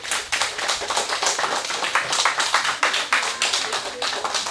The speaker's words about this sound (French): Et oui, vous pouvez l'applaudir, les enfants. Oui, tout à fait.